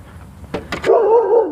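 A dog right on the other side of a fence gives a few quick, sharp barks, then a sustained, wavering whine-like bark that carries on loudly to the end. No one speaks.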